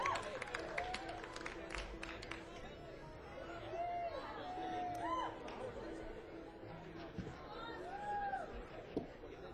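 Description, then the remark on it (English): A crowd applauds a performing band with steady, dense clapping mixed with cheering and overlapping chatter, holding at an even loudness for about ten seconds. “But we sure do appreciate you giving us a big applause there and making us feel so welcome so far from home.”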